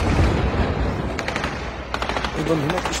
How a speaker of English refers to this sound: In the Gaza Strip, meanwhile, fighting returned to the north, with gunfire echoing through the streets of the Jabalia refugee camp.